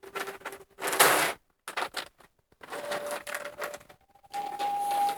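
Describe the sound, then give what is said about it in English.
Paper crinkles and rustles in several short bursts separated by brief pauses, as a sheet of paper is creased and folded up. A faint steady hum sits underneath and there is no talking. “So we're going to take that piece of paper. We're going to fold it up.”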